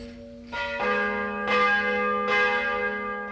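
Church bells of the Kuratiekirche Marie Himmelfahrt in Hirnsberg, Upper Bavaria, ring the noon peal in overlapping peals, several strikes landing about a second apart, their rich harmonic tones sustaining and blending together at a steady, moderately loud level with no voices.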